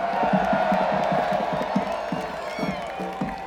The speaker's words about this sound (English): Pretty sure I saw quite a few of you cheering for all three of those Blue Walks amounts.